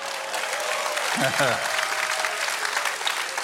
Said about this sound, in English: You're clapping, and you haven't heard it yet, you know?